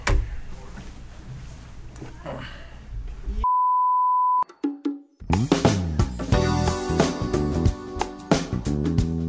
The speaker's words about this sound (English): Do you hear that? Yes. Okay, well, I'm. Fire alarm.